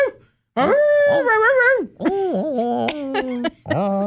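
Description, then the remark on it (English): A person imitates a dog howling in three loud, drawn-out vocal bursts with wavering, sliding pitch, the first long and sustained, the others bending up and down. “Just like where Davos just howling and then they have subtitles under the howls.”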